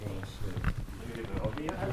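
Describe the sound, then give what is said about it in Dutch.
Several footsteps walk at an unhurried pace across a hard museum floor as people walk through the museum toward the planetarium room, each step a soft thud, with murmuring voices and room noise in the background. “Ja, door even naar de planetariumkamer lopen, want daar draait het om, toch?”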